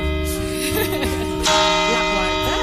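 A large clock tower bell rings the quarters before the New Year chimes with sustained, shimmering tones, struck again partway through for a fresh clang as the second quarter, while excited voices talk over the ringing.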